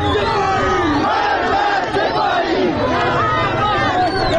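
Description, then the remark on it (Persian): A large crowd of protesters in the streets of Zahedan, Iran, chants slogans such as "death to Khamenei" and "death to the IRGC" on a Friday, loudly and continuously, many voices shouting together in rising and falling rhythmic phrases over a dense roar of background voices. “این جمعه هم فریاد مرگ بر خامنه‌ای و مرگ بر سپاهی خیابان‌ها را پر کرده بود.”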